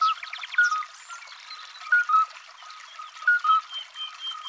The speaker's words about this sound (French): Nous sommes au bord d'un ruisseau, près d'une ferme. C'est le 20 avril, 5h du matin. Cette jolie musique, sur quelques notes, c'est celle des alites. Des petits crapauds, des mâles qui cherchent à attirer les femelles en chantant.